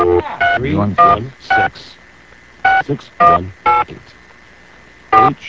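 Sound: telephone keypad dialing tones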